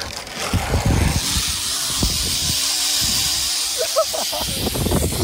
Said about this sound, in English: I'm just about to do the final last zip line. Go Ape, Mallard's Pike in the Forest of Dean, 2 hours of non-stop climbing and forest exploring.